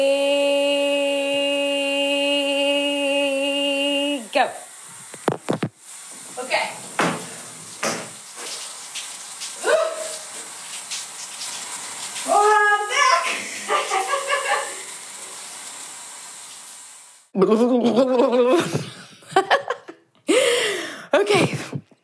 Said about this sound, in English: So I'm going to take a cold shower. Ready?